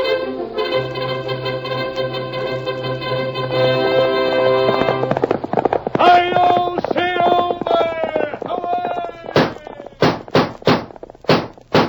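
galloping horse hoofbeats

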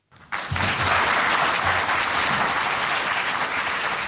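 sustained applause

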